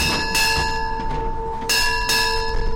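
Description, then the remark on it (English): Ship's bells aboard the USS Constitution, the US Navy's oldest commissioned warship, ring out in quick pairs of strikes announcing the commanding officer's arrival on board, each clear metallic clang lingering and overlapping the next, over a low steady background rumble with no voices. “Ship's bells announcing the arrival of the Constitution's commanding officer, Commander Sean Kearns, on board.”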